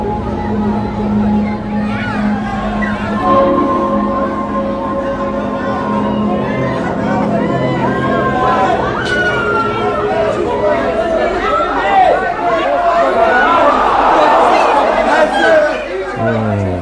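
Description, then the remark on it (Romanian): A dense, hostile crowd chatters and jostles around, some threatening and others jeering, near the Imperial Palace. Many overlapping voices form a continuous loud babble that swells and presses in, with some harsher, rising shouts toward the end. “Se îmbulzesc în jurul nostru ca o haită de lupi flămânzi, gata să ne sfârșie.”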